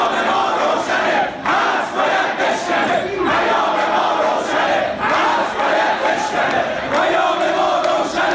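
crowd chanting protest slogans

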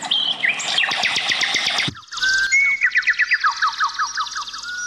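birds singing melodiously

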